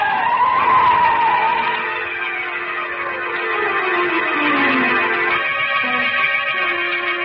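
A loud, sustained tire screech as a car skids and almost runs a person down on a street, the pitch bending and sliding over several seconds with engine noise underneath, intense, with no talking.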